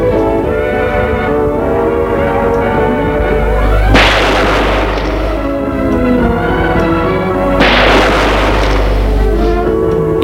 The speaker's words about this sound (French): Deux coups de feu.